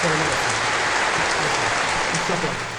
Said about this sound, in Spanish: Sí, señor. Esos aplausos son por ti, ¿eh?